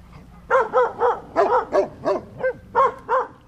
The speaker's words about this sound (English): Twenty dogs, including two huge white Pyrenees and a half dozen plump black lab pups, bark from their large forested pen. Most are foster dogs being groomed for adoption.